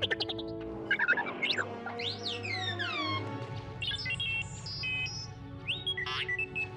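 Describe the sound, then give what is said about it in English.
The droid R2-D2 from the movies chatters in a rapid string of electronic beeps, chirps and warbling whistles that swoop up and down in pitch, over a low mechanical hum, with no voices. “And she describes how he's talking in beeps.”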